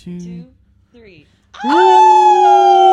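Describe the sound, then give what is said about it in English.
After a brief murmur of talk and a pause, several people break into a loud, sustained group howl on a count of three, rising then holding steady in imitation of wolves. “We're going to go 1, 2, 3, and then we're all going to howl, but not too close.”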